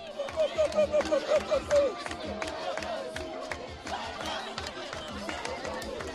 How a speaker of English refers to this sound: And the highlight was a dance-off. There were three girls about 10 years old, one of whom was on crutches, one of whom was looked to have burns all down her side, and they just went for it. You can hear sound of the crowd.